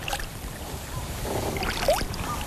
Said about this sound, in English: We're floating. Gently rolling the paddles.